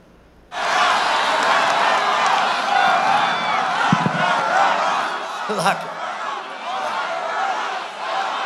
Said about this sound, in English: President Trump said yesterday that Michigan Governor Gretchen Whitmer needed to lift coronavirus restrictions, and the crowd started chanting, "Lock her up." Take a listen.